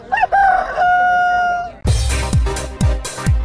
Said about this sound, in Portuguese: Canta Galo!